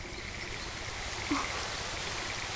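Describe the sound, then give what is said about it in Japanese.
Steady, even hiss of rain falling, a soft continuous wash of noise with no pauses, plus one brief faint tap partway through. No voices. “道に迷ったのなら少し中で休んでいきませんか。雨も降ってきましたし。”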